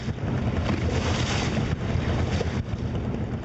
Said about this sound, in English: The boat putters under several bridges, which even at this early hour are bristling with fishing rods.